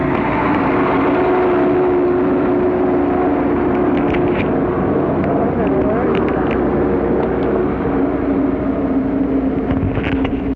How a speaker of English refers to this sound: Here's the bus.